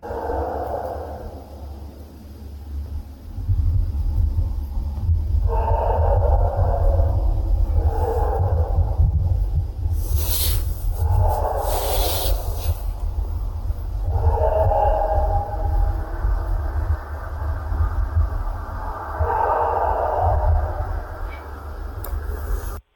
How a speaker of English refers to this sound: I'm going to maybe play the audio of the howl, if you're all right with that. It's about 20 seconds long, and then we can go from there.